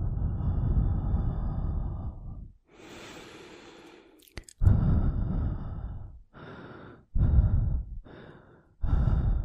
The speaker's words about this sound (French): Et les bruits de respiration aussi.